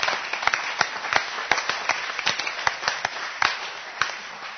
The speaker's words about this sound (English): If you would, give a warm round of applause for San Jose this morning.